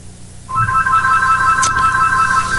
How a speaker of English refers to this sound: My phone's ringing, but it can wait.